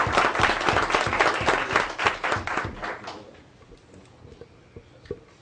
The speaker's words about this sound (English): Okay, we'll get another round of applause for these good folks. Thank you very much.